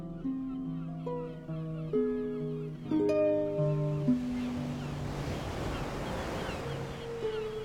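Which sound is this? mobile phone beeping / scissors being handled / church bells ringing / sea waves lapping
sea waves lapping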